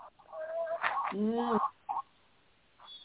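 A baby chicken chirps a quick run of peeping, warbling calls for about a second, followed by a couple of faint, brief peeps before it falls quiet.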